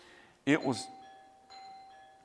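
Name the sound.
ding-dong chime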